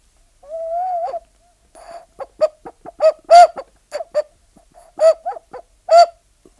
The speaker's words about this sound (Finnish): Ihan rauhallisesti laita se pilli noin siihen huulille. Ja nyt koita puhaltaa.